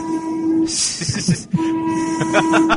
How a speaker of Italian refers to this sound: scusi, è partito il tram, mi sa che fa troppo rumore. No, lasci passare.